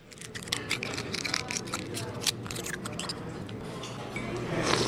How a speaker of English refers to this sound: The lunch crowd at Hog Island Oyster Company on the famous San Francisco Wharf slurps down oysters just as fast as the waiters can shuck them.